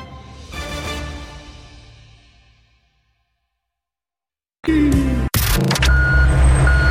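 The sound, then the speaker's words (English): A heavy Brinks armored truck rumbles loudly as it backs into Toyota Center in Houston, with steady repeating reverse-warning beeps; before it, an earlier noise fades away into a brief silence. “The Brinks truck backing into Toyota Center for Jalen Green and Alperen Shingun.”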